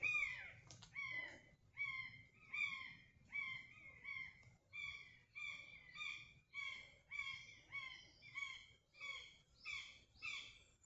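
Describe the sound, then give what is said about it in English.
Repeated bird calls ring out in a steady rhythm, buzzards calling back and forth with a crow cawing among them, over a low rumbling background and no voices. “That's buzzards calling to each other. And a crow.”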